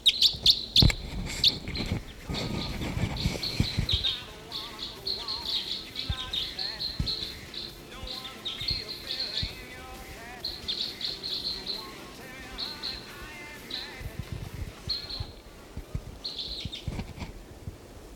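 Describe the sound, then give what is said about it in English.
A female bird chirping in repeated high, bright bursts across the whole stretch as she comes in, going down for water, over a low background rumble with faint indistinct voices now and then. “Bird coming in.”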